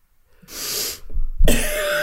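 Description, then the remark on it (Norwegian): A harsh cough bursts out after a sharp intake of breath, followed by a second forceful hack, loud, with no talking. “Jeg må ha en liten hostepause.”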